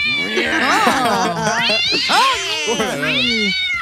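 A small cat meows insistently, a string of loud, drawn-out wavering cries that rise and fall almost without pause for several seconds.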